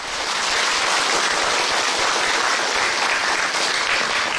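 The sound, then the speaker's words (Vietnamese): A crowd applauds steadily, many hands clapping in a dense, even wash of sound that stays loud and full for several seconds with no voices over it; the applause honours Buddhist practice communities with male and female lay followers. “Xin cho một tràng pháo tay tại đây.”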